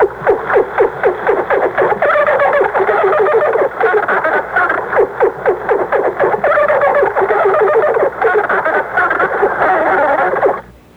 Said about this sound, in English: It almost is like singing, isn't it? It's funny. It sounds like Flipper or something. Well, it was porpoises.